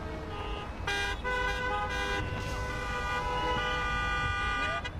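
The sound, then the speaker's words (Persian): Car horns honk repeatedly in a traffic jam on highways out of the city, with queues of cars over 6 kilometres long, several short and longer blasts overlapping over a steady rumble of idling engines, fairly loud, with no one speaking. “گزارش شده که در بعضی از جاده ها صف ماشین ها بیش از 6 کیلومتر امتداد دارد و موجب انسداد مسیر شده است.”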